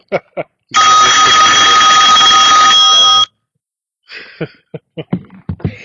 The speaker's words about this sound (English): That'll be my phone ringing.